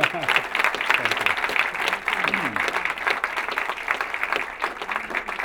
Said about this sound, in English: Before we get too much into it, round of applause for the man, if you would.